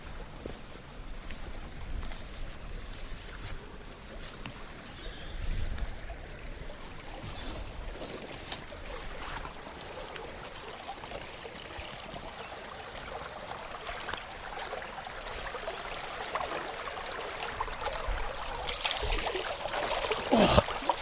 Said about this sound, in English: We're coming to the second site for suspending the piano tapes, the Sturt Creek. And there's quite a good flow in the creek.